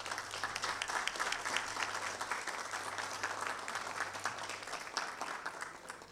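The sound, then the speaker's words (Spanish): Sustained audience applause, a dense crackle of many hands clapping at a steady, fairly loud level for several seconds without pause, with no voices standing out. “Fuertes los aplausos.”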